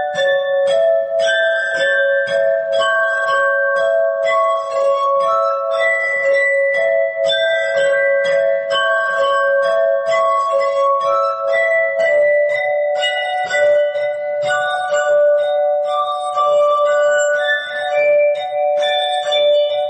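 A lilting waltz, Johann Strauss's "The Blue Danube", played on a glass harp, with sustained, shimmering ringing tones that overlap and blend, steady and fairly loud throughout with no voices.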